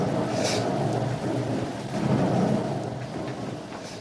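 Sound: heavy rain with thunder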